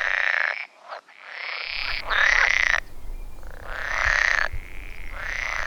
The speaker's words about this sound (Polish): Kiedy żaba wydaje swój charakterystyczny rechot, worki drgają bardzo szybko i roznoszą ten dźwięk po okolicy, przez co ta żaba słyszana jest nawet na kilometr i dalej, jeśli sprzyjają temu warunki, szczególnie nocą.